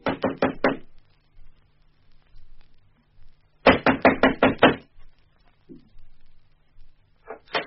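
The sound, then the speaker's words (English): Loud, sharp knocking on a door: a quick burst of four or five raps, a pause, then a longer, harder run of about six, with another knock starting at the very end. “What the dickens are you trying to break the door down?”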